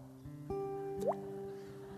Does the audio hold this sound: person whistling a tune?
no